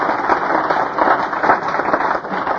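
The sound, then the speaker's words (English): A crowd claps together in a steady, dense burst of applause, many hands at once with no single clap standing out, loud throughout the short stretch. “My gosh, I have not seen a feed like that in a long, long time, and you all ought to all be applauded for that.”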